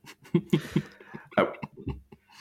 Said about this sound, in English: I'll clear my throat before I say this, but I was going to say the same thing as well.